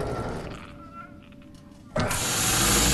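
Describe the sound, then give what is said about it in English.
Huge heavy sliding doors being prised open: a low mechanical whir with a faint steady hum, then an abrupt loud rushing rumble that starts partway through and holds to the end. “Austin prizes open huge sliding doors.”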